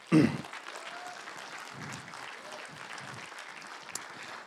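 An audience breaks into applause, starting with a loud burst and then settling into steady, dense clapping that holds at an even level for several seconds.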